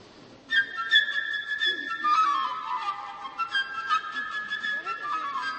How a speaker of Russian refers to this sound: Друзья, сначала у нас Петя Волк Прокофьева. Какие у нас персонажи и инструменты? Во-первых, у нас будет птичка. Птичка, прошу, сюда. Вот здесь она вам изобразит, как звучит инструмент флейта. Птичка, пожалуйста.